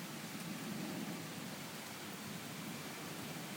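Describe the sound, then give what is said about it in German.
Light rain falls steadily, a soft, even hiss of drops with no breaks or distinct patters, fairly quiet and continuous throughout, with no voices. “Na, zwischendurch war es jetzt mal eben weniger mit Regen.”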